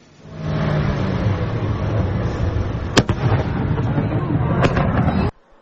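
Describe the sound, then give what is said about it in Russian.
A sustained, loud roaring rumble of ongoing detonations, punctuated by two sharp, cracking blasts partway through, before the noise cuts off abruptly. “детонация происходила достаточно долго и мощно”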